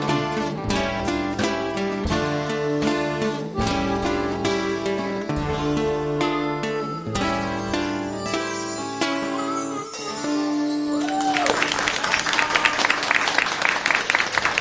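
A song with steady rhythmic accompaniment ends, and a burst of audience applause breaks out, loud, dense clapping filling the last few seconds.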